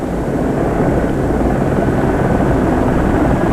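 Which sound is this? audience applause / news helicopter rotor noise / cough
news helicopter rotor noise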